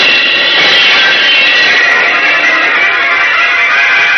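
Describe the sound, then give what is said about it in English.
A loud, steady rushing whoosh of Superman rocketing out to sea after diving through a heavy glass wall, a broad airy roar like a jet that holds at full strength for about four seconds with no voices over it. “Diving through the heavy glass wall, Superman rockets out to sea”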